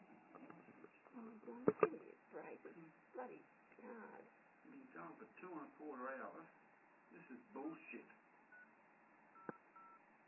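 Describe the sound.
Short telephone keypad dialing beeps, a quick pair near the start and one more later, sounding over muffled, phone-filtered talking that continues throughout, as someone dials Westpac on a phone.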